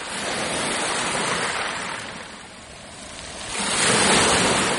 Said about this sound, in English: Eine Welle bricht.